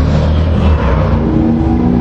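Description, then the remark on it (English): A muscle car and a motorcycle race each other, taking off right outside the window, their engines roaring in a loud, continuous growl that fills the moment, with no voices over it. “There's a muscle car racing a motorcycle right outside the window here.”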